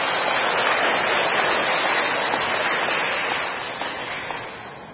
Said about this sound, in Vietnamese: Cảm ơn con, cho một tràng pháo tay thật lớn.